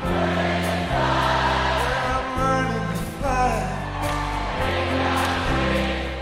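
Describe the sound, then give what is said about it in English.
A loud concert crowd roars and whoops over a band playing steady, sustained chords, responding as the performer steps back and puts his hands up, in the 2007 documentary Running Down a Dream; the cheering continues throughout as a dense wash of voices. “He steps back and puts his hands up, and the crowd instantly responds.”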